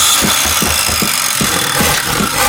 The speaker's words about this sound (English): Another hammering sound, then we got the power tools.